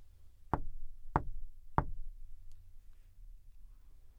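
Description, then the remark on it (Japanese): Three sharp knocks by a girl on the wooden door of a house in a forest, evenly spaced about half a second apart, clear, followed by quiet room tone with a faint click. “ドアを叩いても返事がないので、女の子はそっと中に入りました。”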